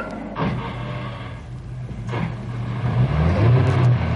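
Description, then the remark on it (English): A car engine is started and idles with a low, steady hum, broken by a couple of sharp clunks as the clutch goes in and reverse gear is selected, then revs higher and louder as the brake comes off and the car pulls away. No one speaks. “Start up, clutch in, reverse gear, accelerate, brake off and drive.”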